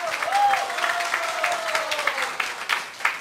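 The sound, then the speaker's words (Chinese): An audience breaks into steady, dense applause to encourage a man invited to stand up and speak, many hands clapping at once in a continuous patter. A faint wavering tone, like a whistle or feedback, glides beneath it early on. “我们给这位伙伴热烈掌声鼓励一下。”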